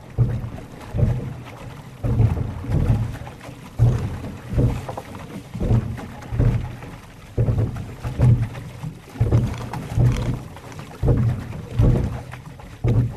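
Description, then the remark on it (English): The Georgia State University rowing crew pulls through the Chattahoochee River in Atlanta on a crisp, cool fall morning at about 4 a.m., in a steady rhythm, each stroke a low splashing surge roughly every second and a half, with faint wind noise underneath and no voices. “Here's another Atlanta sound that features just the sound alone, and it's courtesy of the Georgia State University rowing crew. They're out on the Chattahoochee River early one fall morning.”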